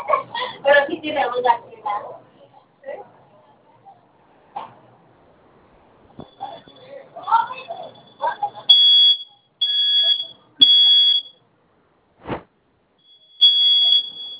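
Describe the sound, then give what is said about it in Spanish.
A shrill, high-pitched alarm beeps in several loud bursts, some long and steady, separated by short gaps, with a sharp click between them, while its code is being entered; voices and a barking dog are heard earlier. “Cuanto comience a sonar la alarma, ingresen la clave que escogió la señora.”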